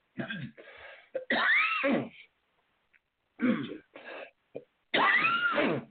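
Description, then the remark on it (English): Two sneezes, a couple of seconds apart. Each begins with short sharp intakes and ends in a loud, voiced burst that trails off. “Pardon. Bless you.”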